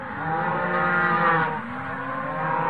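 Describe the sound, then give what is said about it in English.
Muffled cows near a ranch mooing in a long, drawn-out low that wavers in pitch for a few seconds, dull and boxed-in, with no talking. “Again, the cows.”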